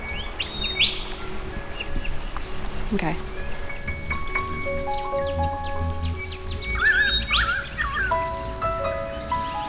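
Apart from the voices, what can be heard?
small songbird chirping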